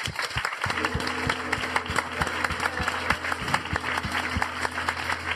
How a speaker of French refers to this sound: Merci, mais si on peut les applaudir.